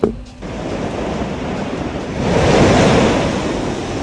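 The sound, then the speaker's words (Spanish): Heavy ocean surf roars against the coast of Peru, a dense wash of crashing water that swells louder midway as a big wave breaks, with gusty wind rumbling over the microphone; the rough sea reaches almost 3 metres high. “Oleajes muy fuertes azotaron las costas peruanas.”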